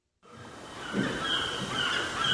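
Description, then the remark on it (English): Seagulls call over a steady wash of Pacific Ocean surf by a three-story townhouse in Santa Monica, Southern California, their cries drawn out and overlapping, with the rushing background noise continuous throughout. “This three-story townhouse in the neighborhood of Santa Monica is so close to the Pacific Ocean, you can hear the seagulls.”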